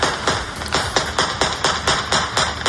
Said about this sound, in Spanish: Son los tiros al aire con los que los combatientes talibanes celebraban la salida de las tropas occidentales.